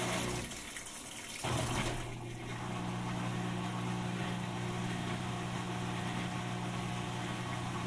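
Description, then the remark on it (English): A washing machine's drain pump hums steadily over rushing water; the pump and then the water briefly stop, then the pump's low drone starts up again and carries on evenly. “The pump stopped, then the water stopped, then the pump restarted.”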